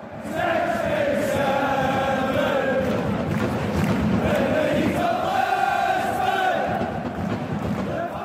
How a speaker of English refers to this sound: But the hum of 80,000 vuvuzelas drowned out that type of crowd noise. The sound caused actual headaches for television broadcasters.